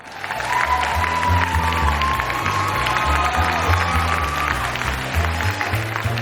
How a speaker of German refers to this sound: Applaus.